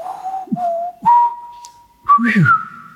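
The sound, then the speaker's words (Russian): A person whistles an imitation of a thrush's song, the melody a thrush learned and continued: short sliding notes, a long steady held tone, then a quick burst of rising and falling phrases, clear and moderately loud with no talking. “И день на пятый или шестой я услышал, как дрозд выучил дальше эту мелодию. И он поет.”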